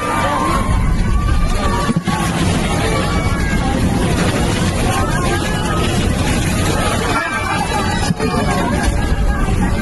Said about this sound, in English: Some airline passengers in India had a rough flight on Wednesday. Their plane got hit by bad turbulence, then hail, then a bird. Here's what it sounded like from inside the plane.